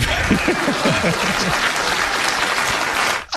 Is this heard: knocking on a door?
no